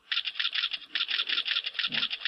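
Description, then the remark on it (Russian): A rapid, steady string of sharp, bright click sound effects, played by a PyGame program on mouse button presses, about ten per second, running continuously with no voices, plus a soft low thump near the end. “И по нажатию кнопки мыши мы идем выводить звук клика.”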